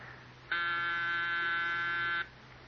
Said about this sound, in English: Let them ring. They'll go away. Let them ring. But we can't just pretend we're out every time the bell rings.